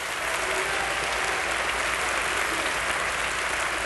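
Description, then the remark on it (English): Steady audience applause, a dense wash of many hands clapping at an even, loud level throughout, with no voices standing out above it. “Please clap in an understanding of what God could do in us and through us.”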